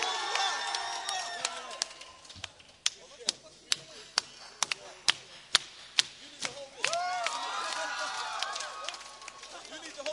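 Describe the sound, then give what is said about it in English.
A crowd at a band contest prize-giving, with the acts gathered on stage, cheers and whoops, then a run of sharp, separate claps rings out before excited shouting and cheering rise again at the end. “That's it. Round of applause.”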